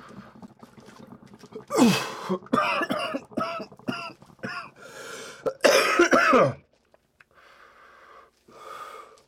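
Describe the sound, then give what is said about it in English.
A loud coughing fit after smoking from a bowl: a rapid series of harsh, raspy coughs that builds into heavy hacking, then fades into quieter wheezy breathing. “I'm sorry for all the coughing.”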